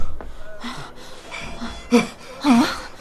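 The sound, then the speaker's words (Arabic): Ragged, breathless panting from a frightened man who has come running, a run of quick airy breaths broken by two louder, voiced gasps near the end, with no words spoken. “ما لك تلهث خائفا يا مرادي؟ جئتك مهرولا.”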